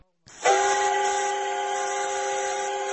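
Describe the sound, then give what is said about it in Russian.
The whistle of a 1953-built steam locomotive named after Strizhov, hauling a retro excursion train from Kazan station to Sviyazhsk, blasts loudly and holds as one long sustained chord with a breathy hiss, starting suddenly after a brief silence and continuing steadily to the end. “Так, из Казани в Свияжск отправился экскурсионный состав во главе паровоза 53-го года выпуска имени Стрижова, конструкторы которого были удостоены сталинской премии.”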